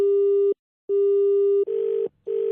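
A telephone busy tone as someone dials a number again and again: a steady electronic beep cut into regular on-off pulses, about three repeats, with the later ones sounding slightly buzzier and noisier. No one speaks over it.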